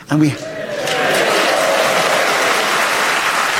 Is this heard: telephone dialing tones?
no